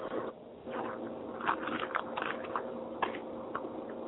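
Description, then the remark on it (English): Crunching as someone bites and chews a Crunch chocolate bar: a handful of crisp, irregular crunches over a steady low background hum, with no talking. “Stop crunching over there. I want to hear it. Sorry, I got a crunch bar.”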